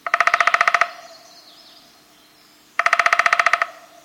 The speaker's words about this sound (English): Coast to coast, border to border, forest to feeder, the downy woodpecker goes about its business in 49 states.